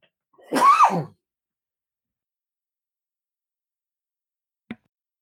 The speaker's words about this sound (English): Oh, I had a cough.